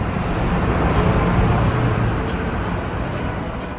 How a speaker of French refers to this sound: Édouard Jean Empain sort du véhicule, il l'entend s'éloigner.